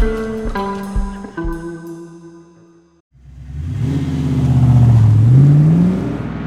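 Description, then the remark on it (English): A few sustained musical chords ring out, then the engine of a rented Ford starts up loud, revving with a rising pitch as the car pulls away and drives off. “Mark was behind the wheel of a rented Ford by 8:30 the next morning.”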